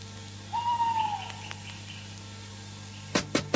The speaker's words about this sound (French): Qu'est-ce que l'atmosphère est sinistre par ici, avec tous ces hiboux.